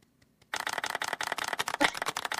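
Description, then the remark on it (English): After a brief hush, a burst of quick, crisp hand clapping starts and keeps going steadily, the claps overlapping into a dense patter like a few people applauding at once. “can you do the clapping thing?”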